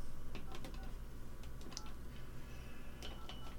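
telephone dialing tones

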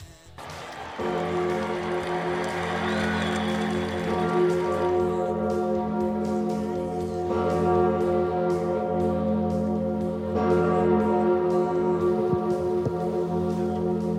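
cathedral church bells ringing

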